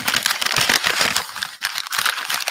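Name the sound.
paper being crumpled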